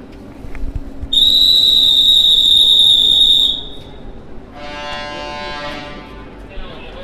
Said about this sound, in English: In the Bucharest Central train station